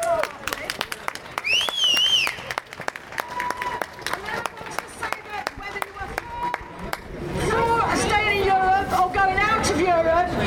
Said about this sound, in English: So I think a big round of applause for them.